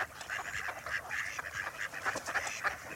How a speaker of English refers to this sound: And watch to see which duck is quacking. That's the female mallard. Male mallards make a more subdued and raspy call, mostly when courting or greeting, or when they feel threatened.